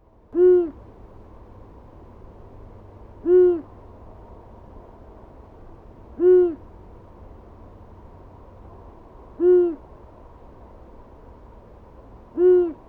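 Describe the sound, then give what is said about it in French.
An owl hoots five times at steady intervals of about three seconds, each call a clear, rounded note standing out over a faint, constant background hiss. “Eh oui, c'est bien le hibou qui vit dans la forêt lointaine.”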